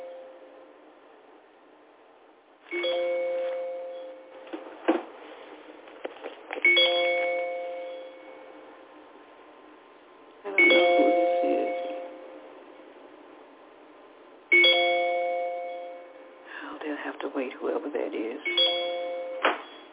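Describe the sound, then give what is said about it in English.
A phone rings with a bright electronic ringtone, repeating in four bursts roughly every four seconds, fairly loud, with faint background noise between rings. “They're probably calling me to tell me they can't hear me on the phone.”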